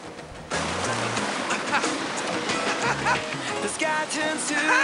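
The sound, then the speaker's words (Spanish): Ocean waves break and rush loudly after a brief quieter opening, a dense, continuous wash of surf with faint voices or tonal sounds beneath it, as two people on surfboards ride different waves. “Surfean diferentes olas.”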